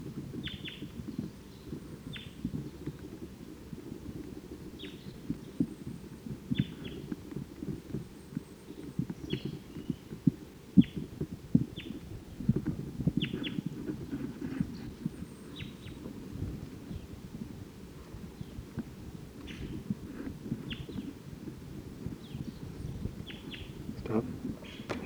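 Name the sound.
bird chittering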